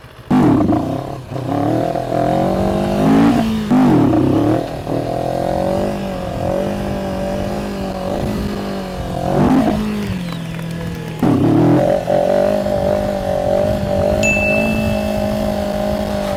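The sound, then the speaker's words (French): A stock-style café racer motorcycle with clip-on handlebars idles loud, blipping the throttle several times so the pitch swells and drops in short revs, with a steady rumble in between and no talking. “Et puis voilà, c'est bizarre, c'est genre un café racer un peu d'origine.”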